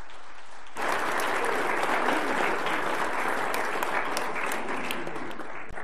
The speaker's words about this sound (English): And I think giving a round of applause for what the Lord has just done is very appropriate.